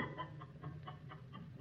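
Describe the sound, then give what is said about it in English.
Chickens that Paracelsus fed a white fluid, made from acid of sulfur and alcohol, cluck in a steady run of short, quick notes, evenly spaced, fairly soft against a low background hum, with no one speaking. “and being of a curious turn of mind, Paracelsus fed the white fluid to some chickens.”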